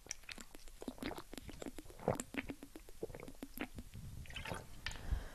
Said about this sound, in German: Prost, ich muss noch was trinken.